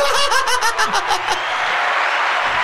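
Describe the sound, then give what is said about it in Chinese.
A quick run of about seven sharp hand claps mixed with voiced laughter, fading into a steady background hiss after the clapping stops. “我用掌声拖延你思考的时间， 谢谢。”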